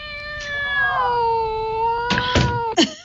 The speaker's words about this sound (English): Get down. The cat is a menace. Sheesh. Oh, kitty, kitty.